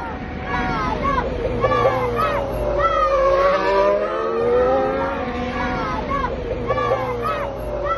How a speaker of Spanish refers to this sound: Y fíjate cómo le vitoreaban los chavales desde fuera justo del circuito.